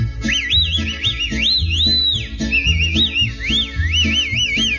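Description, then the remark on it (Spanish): A person whistles a discreet, wavering, looping call to signal a sweetheart, sliding up and down in quick swoops for several seconds, clear, with a low rhythmic musical backing underneath. “Te echaré un chiflidito al que te tengo acostumbrada, muy discreto, así mi vida, óigalo.”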